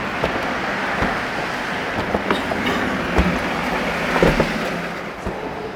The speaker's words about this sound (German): Das Flugzeug startet und rast immer schneller auf den Pazifik zu.